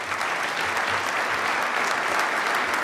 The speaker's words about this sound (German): Kommen Sie rauf. Und Applaus bitte.